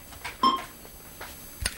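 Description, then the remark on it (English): A single short electronic beep from a quiz buzzer system as the buzzers are cleared, clean and steady-pitched, sounding once amid quiet background noise with a few soft bumps after it. “All right, clearing the buzzers.”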